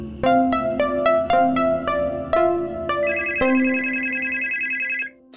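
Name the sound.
telephone ringing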